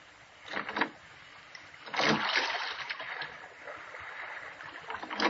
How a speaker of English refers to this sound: he can't take his eyes off us. I wish he'd watch out where he's rowing.